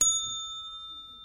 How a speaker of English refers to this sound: When time is up for a particular section, we'll hear this sound, a desk bell.